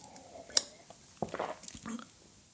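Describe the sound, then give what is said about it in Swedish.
A quiet sip of water: a sharp click like a cup or lip, followed by soft wet slurping and swallowing sounds, with no talking. “Jag ska ta lite vatten.”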